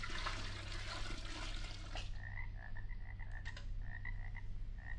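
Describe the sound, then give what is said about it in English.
About a gallon of Transylvanian swamp water is poured in: a loud rush of pouring, gushing water fills the first two seconds, then gives way to a steady run of quick, chirpy frog croaks repeating over a low background rumble. “Instead of nightingale's tongues, I'll pour in some magic Transylvanian swamp water, about a gallon's worth.”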